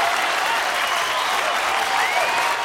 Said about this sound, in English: father leads the applause.